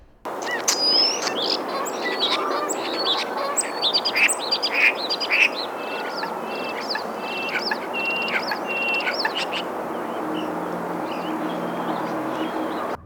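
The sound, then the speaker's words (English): A songbird runs through a quick medley of mimicked wetland calls, Canada goose honks, a mallard's quack and American coot notes, in bursts over the first half, then fades under a steady outdoor hiss. “Wow, check out that wetland phrase he just did. Canada goose, mallard, and then American coot.”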